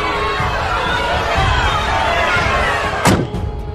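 A loud, sharp door slam near the end, quickly followed by a fainter second thud, over a constant murmur of background crowd noise.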